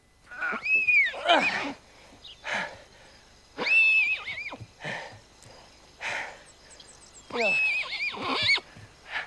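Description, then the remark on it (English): A newborn colt whinnies three times as it struggles in a grassy field, each call high and quavering, with breathy snorts and huffs filling the gaps between them. “He crouches beside the young horse as it struggles.”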